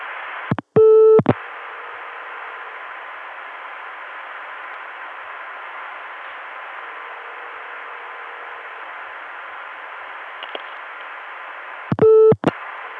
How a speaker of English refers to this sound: It's barely audible, but you can hear the ringtone of the call back to myself way off in the distance.